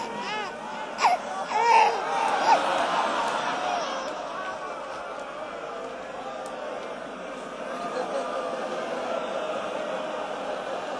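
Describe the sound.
A baby cries in a few loud, wailing bursts over the first seconds, then the sound settles into a steady wash of crowd noise and indistinct voices.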